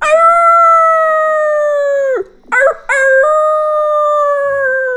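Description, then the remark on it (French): A wolf on a heath howls loudly in two long, sustained wails with rich harmonics, the first sliding down and breaking off before a brief yelp and a second steady howl. “Mais, un instant après, le même hurlement sinistre s'éleva en arrière.”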